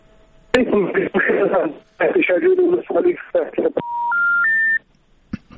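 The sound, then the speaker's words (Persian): A listener's muffled voice talks over a thin telephone line during a Radio Azadi call-in program, then the call drops and three short electronic tones climb in pitch, one after another, before a couple of faint clicks. “خب شما را قطع شد.”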